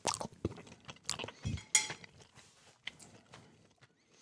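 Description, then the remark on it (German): Quiet sounds of someone tasting spaghetti made without egg, only from durum wheat, semolina and water, produced in a Kenwood machine: scattered clinks and scrapes of cutlery against a plate, a soft thud, and faint chewing, with no one speaking. “Was wir also als erstes probieren, ist die Nudel ohne Ei, nur aus Hartweizen, Grieß und Wasser.”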